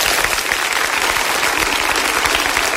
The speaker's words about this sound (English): And I tell you what, round of applause. Get it ready.